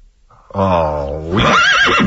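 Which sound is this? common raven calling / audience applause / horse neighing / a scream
horse neighing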